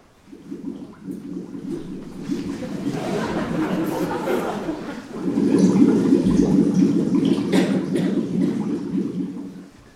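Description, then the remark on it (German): Continuous rushing and gurgling of water as a yellow submarine dives underwater, steady at first and then swelling into a louder surge about halfway through before fading out at the end. “lässt das Boot zum nächsten Unterseeboot werden und taucht ab ins Wasser.”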